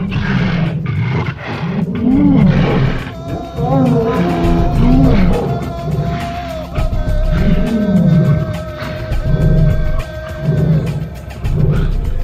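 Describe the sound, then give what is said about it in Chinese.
Lions in a lions' den roar again and again, deep rumbling growls rising and falling every couple of seconds, loud, with a faint steady hum lingering underneath for part of the time. “于是王下令把但以理抓起来扔进狮子坑。”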